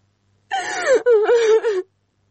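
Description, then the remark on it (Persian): A woman wails in a loud, anguished cry, her voice rising and sliding down in two long sobbing bursts separated by a brief catch of breath, then silence. “دختر مادرت برد بمره حتی تالی گریه میکنی.”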